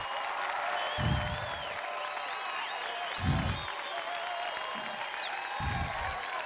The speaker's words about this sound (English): All right. Because we had to throw the applause up in there, you know, make sure it's happened.